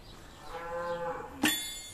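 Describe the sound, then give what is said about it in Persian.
A cow at a cattle farm lets out a single long, low moo with a rich harmonic tone, rising and then fading, followed by a brief sharp knock. No one speaks. “همکنون در یک سرایداری یک گاوداری سکنا گزیده ایم.”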